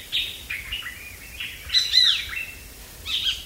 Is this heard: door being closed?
no